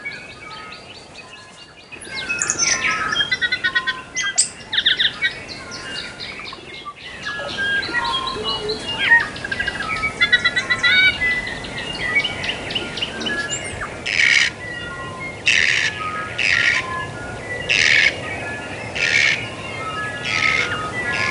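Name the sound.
new Zealand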